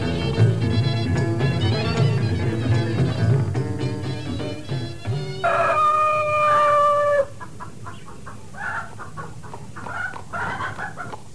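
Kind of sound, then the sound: bird, chicken clucking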